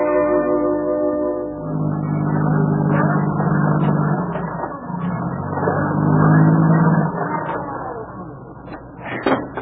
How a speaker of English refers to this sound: Your car wheels just keep spinning.